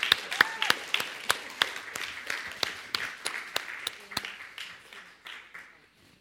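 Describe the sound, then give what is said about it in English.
A church audience breaks into applause during a morning service, thanking the volunteers who served in Children's Church over the last year: a dense patter of many hands clapping with a few sharp, louder claps standing out, gradually thinning and fading away over about six seconds. “So let's give them a round of applause this morning.”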